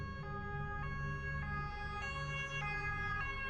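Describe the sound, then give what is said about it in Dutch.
An emergency vehicle siren wails steadily as the vehicle tears out of a gate with flashing lights, its two-tone pitch switching back and forth several times over a constant low engine rumble, loud with no voices. “En hij deed de klep dicht en ik scheurde de poort uit met zwaarlicht en sirene.”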